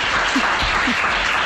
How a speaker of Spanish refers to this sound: Vale, bueno, lo ha hecho súper bien. Yo creo que se merece un aplauso, ¿no?